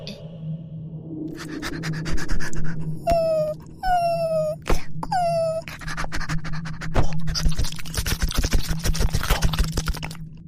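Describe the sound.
A person imitates a dog's cries, trying to offer comfort with the cries alone, giving three drawn-out whimpering whines in quick succession, fairly loud, amid scratchy rubbing and clattering noises that continue afterward.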